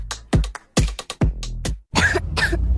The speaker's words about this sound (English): What about my cough? DayQuil Kids has that covered.